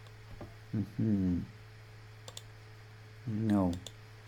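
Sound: computer keyboard clicking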